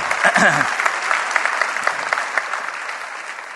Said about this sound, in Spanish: Si Dios te habló, da un aplauso al Señor, que Él se lo merece. Amén.